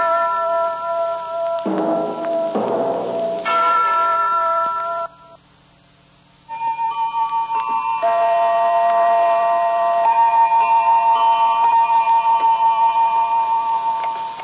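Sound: clock ticking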